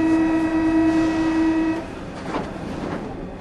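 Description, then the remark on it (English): A subway train in Paris rumbles along underground, opening with a loud, steady tonal whine for nearly two seconds before settling into a continuous rolling roar with faint shifting squeals. No one speaks. “I'm on the subway riding to what the novelist Victor Hugo called Paris's outpouring of gold”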